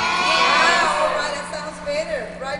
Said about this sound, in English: It's the first day of summer school at Holy Trinity Catholic School in Dallas. The gym is buzzing with kids.